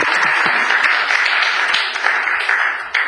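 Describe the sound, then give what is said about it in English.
A crowd at a commission meeting applauds the council member steadily, a dense wash of many hands clapping at an even, fairly loud level throughout, with no one talking over it. “Let's give an applause to the council member.”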